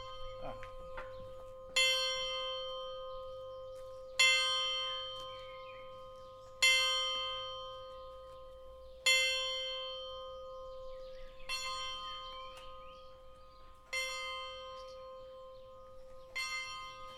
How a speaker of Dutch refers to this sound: We gaan eens even luisteren naar het klokje van het kerkje annex schoolgebouw te Gortel. Het wordt nu aangezet.